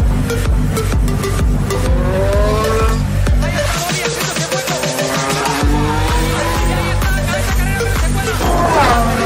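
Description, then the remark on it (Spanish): Racing engines rev and roar loudly throughout, with rising and falling pitch sweeps, a brief dip in the low rumble midway, and tire squeals mixed in, no talking. “todos los motores en marcha, porque nos vamos con la sección de motor.”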